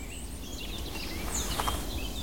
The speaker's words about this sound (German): der schimpft der Spechte.